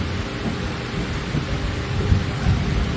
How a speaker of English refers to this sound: It starts raining very seriously.